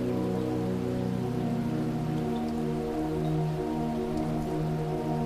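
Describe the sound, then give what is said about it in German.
Stormy, heavy rain lashes against the windows and gables of an autumn town at night, a continuous dense patter with low droning undertones, fairly loud throughout, with no voices. “Stürmisch ziehen Regengüsse über das Land und peitschen an die Fenster und Giebel der herbstlichen Stadt.”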